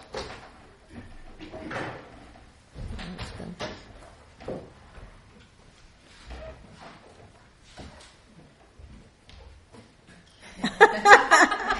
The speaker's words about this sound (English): Closing the door. Yeah, that's better because it's kind of disturbing.